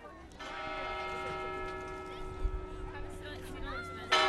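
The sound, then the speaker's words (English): A fog bell clangs once and rings on with a long, steady metallic hum as a group of 50 children exit down a ramp from a ferry at the Angel Island Immigration Station in San Francisco Bay, over a low murmur of a crowd and bustle, ending with a brief burst of noise. “The fog bell clangs, and a group of 50 children exit down a ramp from a ferry to the Angel Island Immigration Station in San Francisco Bay.”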